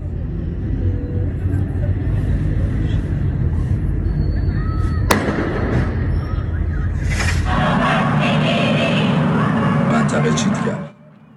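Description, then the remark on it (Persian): Government forces fire at windows and at citizens filming during Student Day protests in the streets: a single sharp gunshot-like crack rings out midway through steady outdoor street noise with indistinct voices, followed by a louder, rougher burst of crowd and traffic noise before an abrupt cut. “در طول روز هم نیروهای حکومتی برای مقابله با اعتراضهای مصادف با روز دانشجو در خیابانها حضور داشتند و به سمت پنجره‌ها و شهروندانی که در حال فیلم برداری بودند شلیک کردند.”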